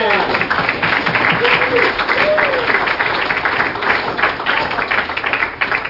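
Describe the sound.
Steady, dense applause from an audience, many hands clapping in a continuous loud wash for several seconds, with faint voices and a brief cheer or call rising through it.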